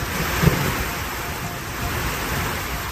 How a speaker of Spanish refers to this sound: Esta tarde así se escuchaba el agua caer en Sevilla y también en Melilla. En tan solo 30 minutos las calles se han convertido en ríos.